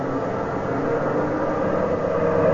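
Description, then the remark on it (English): A steady, droning truck engine rumbles continuously as trucks drive in a convoy, a dense roar of moving vehicles with no breaks and no voices. “Truck number 12 just came around the curve.”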